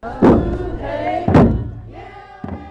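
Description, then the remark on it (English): At the Southeast Alaska Native Celebration, heavy drum beats land about once a second, three in all, while a crowd of over 300 people on the shores of Douglas Harbor sings a sustained, wavering song of welcome between and over the hits as they wait for a canoe flotilla. “At Celebration, waiting has a sound of drums, of voices raised in songs of welcome.”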